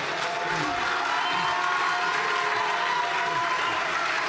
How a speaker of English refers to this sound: What are you cheering for?